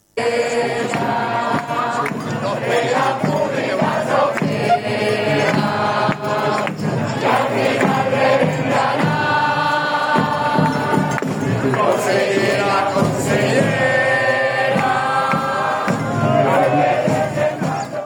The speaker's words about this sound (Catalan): De fet, s'ha llegit un manifest a favor de la sanitat pública i es podia escoltar a les portes de la Conselleria consignes com esta.